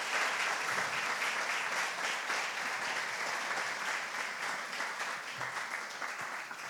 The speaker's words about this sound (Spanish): Y esta iglesia, Señor, te desea y te da este fuerte aplauso a ti, único Dios verdadero.